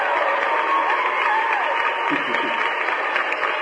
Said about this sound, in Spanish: un aplauso